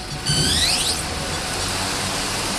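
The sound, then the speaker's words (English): A quadcopter UAV with four helicopter blades and four spindly legs lifts off from the floor of a company hangar at Springfield Air Park, spinning up with a rising, high-pitched motor whine, then settles into a steady, even buzzing hiss as it hovers overhead. No voices are heard. “The drone passes over our heads, creating a little breeze and hovering in midair like a bird in the wind.”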